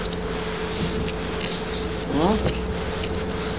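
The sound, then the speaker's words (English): Soft, scattered crinkles of a silver foil chocolate wrapper being handled and wrapped up into a silver paper man, set against a steady low hum, with a brief voiced sound partway through. “You're trying to make a silver paper man.”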